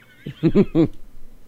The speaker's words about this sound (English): Oh, you mean the horse?